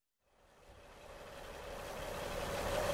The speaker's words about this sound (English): What's that sound? Forklift trucks. We're moving some pallets.